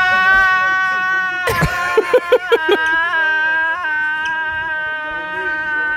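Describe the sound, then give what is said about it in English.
A drunk man yells loudly and continuously in long, strained, wavering cries, with a burst of sharper rhythmic shouts partway through, alone, in a video being played. “He just starts yelling at each.”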